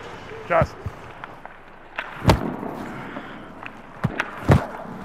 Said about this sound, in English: That thud is the sound of a rubber hockey puck that's been shot at Gibson that he is blocking with his body. It's kind of a crazy position where your job is to put your body in front of hockey pucks that could be going, at this level, over 100 miles